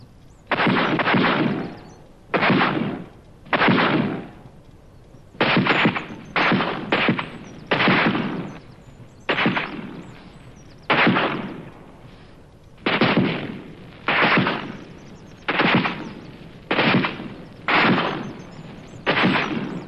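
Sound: gunfire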